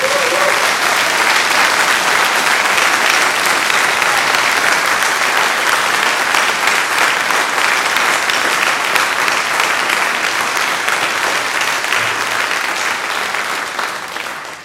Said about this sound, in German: Ich möchte einfach mal, ohne Namen zu nennen, einfach mal euch allen kollektiv einen riesen Applaus spenden, die dazu beigetragen haben, dass das Wochenende hier ist.